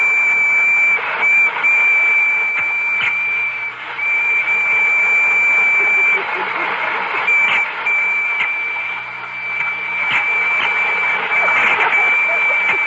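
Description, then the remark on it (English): A toy electric train whirs and rattles steadily while a thin, high whistle tone sounds almost continuously, cutting out briefly a few times before resuming. “Spangles, are the electric trains ready? Oh, I think they're all lined up. Well, start one up and let's see.”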